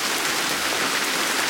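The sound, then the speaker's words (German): Heavy rain pours down in a dense, steady hiss, a loud continuous cloudburst drumming on surfaces, with no voices over it. “Ja, ihr hört es. Es regnet.”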